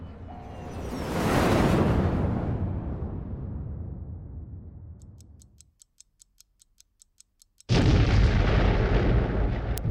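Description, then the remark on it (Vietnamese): A massive atomic bomb, dropped over Japan from nearly 10,000 metres, explodes about 500 metres above the ground with a loud roar that slowly fades. A steady mechanical ticking plays in near silence, then a sudden, loud, sustained blast of noise cuts in. “Giây sau, nó phát nổ khi còn cách mặt đất khoảng 500 mét.”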